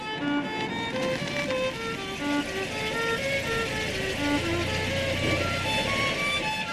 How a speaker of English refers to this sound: What's that behind me? What's that sound? A siren. Oh no, I can't be pulled over right now.